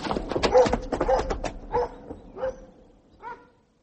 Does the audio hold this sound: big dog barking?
yes